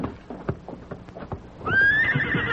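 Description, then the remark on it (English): As men mount horses, a run of sharp hoof clops taps out an uneven rhythm, then a loud, shrill horse whinny rises and holds, with scuffling underneath. “Now, you fellers, get on horses. Yes, we're mounting. Easy there. Whoa.”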